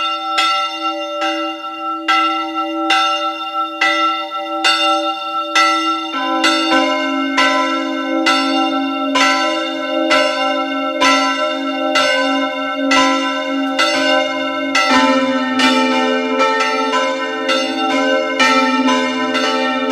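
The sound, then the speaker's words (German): Several bells of the parish church of Maria Heimsuchung in Kogelhof, eastern Styria, Austria, peal together at noon in a steady, overlapping swing, rich ringing tones sustained and fairly loud throughout, with deeper bells joining partway and no voices. “Sie hören die Glocken der Pfarrkirche Maria Heimsuchung in Kogelhof in der Oststeiermark.”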